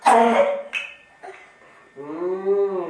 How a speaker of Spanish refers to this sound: ¿Qué tos tienes, eh? ¿Qué tos tienes? Sí. ¿Ya se va a curar o no se va a curar ya ese constipado?